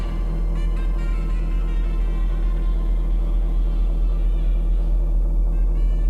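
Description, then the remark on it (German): A steady, low droning machine hum runs unbroken throughout, thick with deep buzzing tones and a faint higher whine on top, constant in loudness with no voices present. “Und dann, wie das jetzt, die Maschine läuft schon drunter, ne?”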